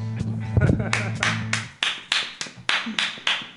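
A sustained sung note and music fade out, followed by a steady run of loud, evenly spaced hand claps, roughly three per second, continuing to the end.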